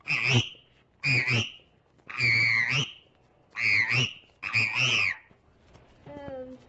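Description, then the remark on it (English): A child's voice imitates a frog, giving five loud, throaty croaks in a steady rhythm, followed by a faint, brief tonal sound at the end. “This one's a frog.”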